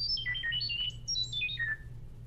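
A rapid, bird-like run of about twenty short electronic tones hopping between high pitches, a robotic chirping data-transfer sound from the Chirp app on a phone, sending links, notes or pictures to a tablet via sound, played alone over a low steady hum.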